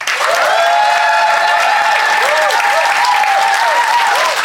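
An audience at the Phoenix claps loudly and steadily for several seconds to vote for one side of a debate, a dense wash of many hands with scattered whoops and cheers rising above it, no single voice speaking.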